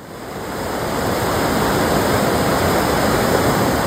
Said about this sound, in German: Ah, was plätschert denn da?